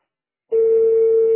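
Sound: telephone line beeps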